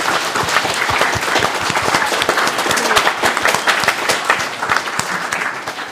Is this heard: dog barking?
no